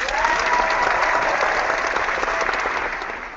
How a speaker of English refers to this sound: Let's get the crowd fired up.